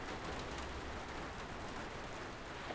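Steady rain pours down on a beach in a constant, dense hiss, with no pauses or distinct drops standing out. No voices are present.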